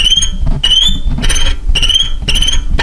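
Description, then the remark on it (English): A violin mimics a cricket's chirping with four shrill, high-pitched bursts in a steady rhythm, each a rapid trill, over a low background rumble. “Yeah, number 1 is violin.”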